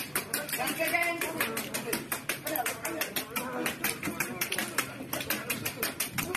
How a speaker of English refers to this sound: Here, you're about to hear. Not clapping. No. That's his head. Yep. Yeah. Breaking nuts.